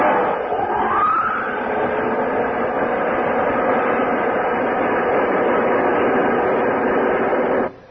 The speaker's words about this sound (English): The spaceship you're on exists. Those jet dynamos you see before you exist. Jet dynamos driven by the harness power of 1,000 suns. Listen, Earthman. Listen to them.